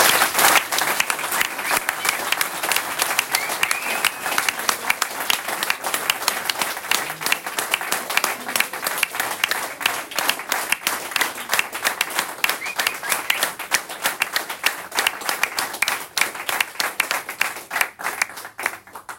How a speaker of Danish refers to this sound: Men først lad os varme hende op med en kæmpe hånd.